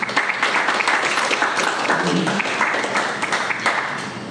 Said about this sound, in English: Give God a hand clap of praise.